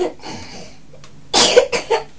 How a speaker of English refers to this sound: Oh dear. You're coughing?